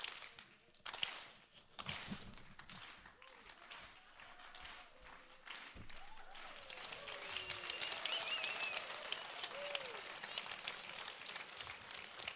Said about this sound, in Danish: Jamen, så skal I lige klappe med. Det er jo en særlig gospelaften.